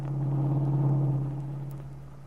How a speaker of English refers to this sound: They lapsed into silence then, while Paul devoted himself to driving the car through the heavy city traffic.